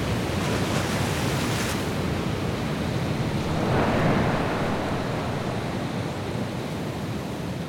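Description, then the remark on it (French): Loud, continuous roar of stormy sea waves with gusting wind, a dense wash of surf that swells slightly midway, with no voices present. “Un après l'autre, les matelots sombrent dans les flots ou s'envolent au vent.”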